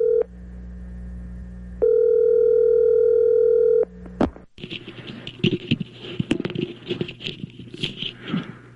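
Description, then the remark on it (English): A telephone call to Tiger Woods is placed: a steady tone hums for a few seconds, swells louder for a stretch like a ring, then cuts off into a crackly, rustling line noise. No one speaks. “we have a number for Tiger, so let's call him this morning and see what he thought of Phil winning another major.”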